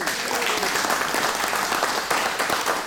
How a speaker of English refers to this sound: Big round of applause